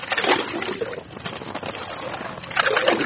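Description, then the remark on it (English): Frigid water gurgles and sloshes up through holes fishermen drilled with an ice auger in foot-thick ice on a frozen river in Kyiv, a bubbling wash with louder surges at the start and end, over a muffled outdoor background. “Frigid water gurgles up through the holes.”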